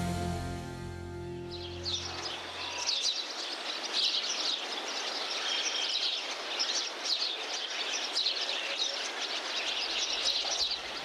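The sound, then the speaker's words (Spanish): A dense flock of birds chirping and twittering nonstop, a busy high-pitched chatter that stays loud and steady; a sustained musical tone fades out during the first few seconds. “Mira, ¿se recrea Los pájaros de Hitchcock?”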